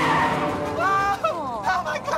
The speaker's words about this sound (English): The mom turns round and skids out of the path of the truck.